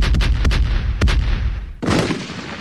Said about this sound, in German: Seine in mühevoller Kleinarbeit selbst entwickelte Bombenkette aus 12 gegeneinander geschraubten VW-Zylindern belohnt mit fulminanter Wirkung sein reges Interesse am fachkundlichen Unterricht in der Kreisberufsschule.